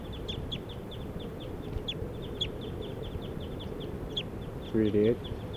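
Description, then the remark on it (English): At least three yellow-rumped warblers, foraging and hovering in flight, give a steady, rapid run of sharp, high chip calls over a constant low rumble, with a short low clucking sound breaking in near the end. “Yellow-rumped warblers, at least three birds foraging and hovering in flight.”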